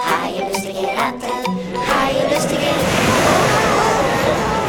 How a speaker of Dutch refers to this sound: De golven sloegen over het dek. De wind beukte in de zeilen en deed de andere masten wankelen. Het schip rolde en stampte als een op hol geslagen paard.